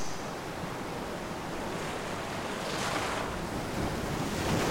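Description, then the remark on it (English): Ocean surf rolls in steadily with wind gusting across the microphone, a dense continuous wash of breaking waves that swells slightly louder toward the end, with no voices. “Her waves are soothing, comforting, and mystifying.”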